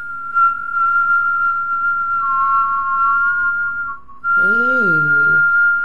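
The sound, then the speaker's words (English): A steady whistle holds one high pitch, dips slightly, pauses briefly, then resumes as breath whistles in and out through circular, pursed lips in a whistle-breathing exercise, with a short voiced sound near the end. “Whistle breath. Whistling in and out and breathing through like this.”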